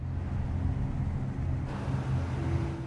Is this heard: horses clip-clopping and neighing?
no